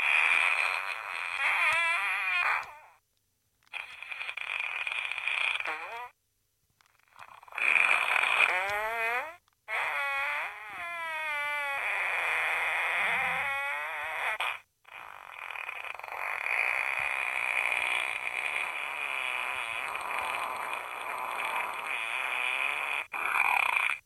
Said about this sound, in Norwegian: Kan vi ikke ta en prompekavalkade fra boka din, nå som du har byttet batteri